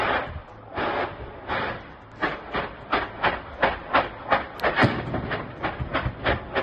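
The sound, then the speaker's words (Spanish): A rapid chain of explosions after an Israeli missile strikes a Hezbollah house storing rockets and explosives, the stored material detonating in more than a dozen harsh, crackling bursts every fraction of a second over a steady rumbling roar, with no voices. “Recoge el momento en el que un misil israelí impacta contra una casa de Hezbollah. Escucha la sucesión de explosiones.”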